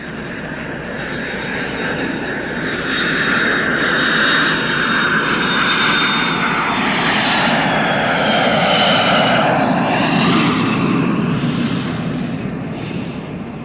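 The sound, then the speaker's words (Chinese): A loud, steady roar of an airplane engine fills the whole stretch, with a whining tone that slowly rises and bends as the aircraft passes. It is the plane bringing a 12-member Chinese farming team to Niger, on the edge of the Sahara. No voices are heard. “农耕队员一下飞机就被强烈的阳光照得睁不开眼睛”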